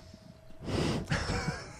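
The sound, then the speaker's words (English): Heavy breathing into a microphone, a loud, airy rush of breath that swells and lingers for about a second, unvoiced with no talking. “What, was someone breathing subscribe on that?”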